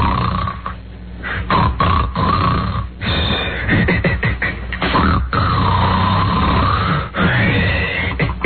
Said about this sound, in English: All right, finally, man snoring during humorous dream. Oh, God.